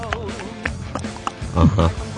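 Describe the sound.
A person vocally imitates seals chewing, making irregular grunting, smacking mouth noises in short bursts that grow louder and deeper near the end.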